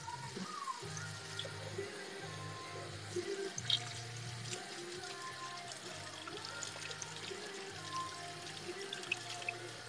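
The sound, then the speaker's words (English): Water runs steadily from a tap that is not getting warm, a continuous hiss and splash with a low hum underneath and occasional small clinks, without any talking. “Wait, why isn't it hot? Why isn't the water getting warm?”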